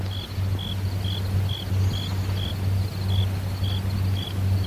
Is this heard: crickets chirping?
yes